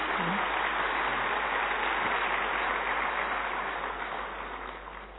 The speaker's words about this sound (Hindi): तो एक बार अच्छी तरह तालियां उनके लिए बजा देंगे.